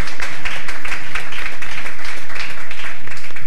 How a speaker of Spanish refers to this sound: por favor, un aplauso para excelentes músicos salvadoreños.